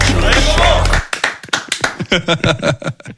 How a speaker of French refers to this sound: Ah, les techniciens. Il s'envoie des applaudissements.